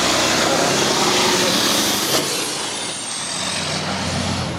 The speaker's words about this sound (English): Let that truck go by.